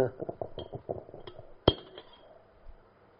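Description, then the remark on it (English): A few light clinks of a white glass, then one sharp, louder clink ringing briefly, with muffled voices murmuring underneath, as Chinese tea is mixed with water in the glass. “Use the white glass. The white glass with my water. Mix some Chinese tea.”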